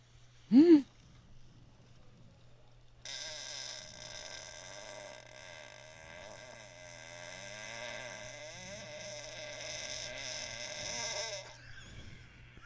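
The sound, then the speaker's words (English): A long, drawn-out fart buzzes steadily for about eight seconds, wavering slightly in pitch, after a short sharp burst near the start; no one speaks. “The fart is definitely at least 9 seconds.”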